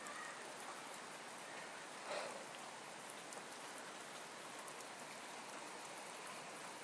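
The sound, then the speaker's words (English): Steady rain patters on a rooftop, a dense, even hiss of countless drops that continues throughout, with one slightly louder splash partway through and no voices. “I love the sound rain makes on the rooftops.”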